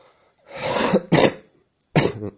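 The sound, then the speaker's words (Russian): Three harsh coughs from a person who is ill: a long raspy one, a quick second right after, then a pause before a final shorter cough. No speech. “Кашляю, болею просто.”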